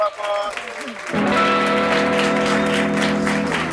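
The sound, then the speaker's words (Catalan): After a brief moment of voice at the start, an audience breaks into steady, loud applause that keeps going without fading, with some voices audible beneath the clapping. “Que no decaigui, que no decaigui aquest aplaudiment.”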